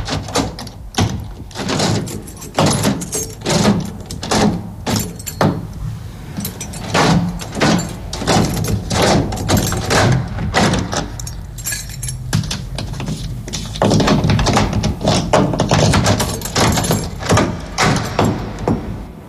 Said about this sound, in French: combien vous avez fait de tours? Pour fermer la porte complètement, il faut faire avant, 3, et puis 6.